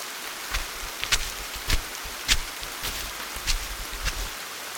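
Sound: rain falling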